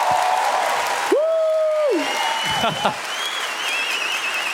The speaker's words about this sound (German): Das ist dein Applaus. Ruf ich dich morgen an. Das ist dein Applaus, Mutter.